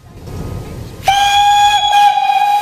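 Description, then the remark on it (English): A steam train hisses on a station platform with a low rumble, then a loud, steady steam whistle cuts in and holds for the rest of the moment, with breathy hiss around it. “Now he's lying on the platform in a fog of steam.”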